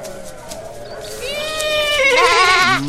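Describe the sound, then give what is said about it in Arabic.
A sheep-like bleat rises in a long, wavering cry that grows louder and more quavering toward the end, standing out clearly with no talking over it. “وبعد أن وجدها وطلب منها ذلك وافقت على الفور وعادا معا إلى الحصان والخروف.”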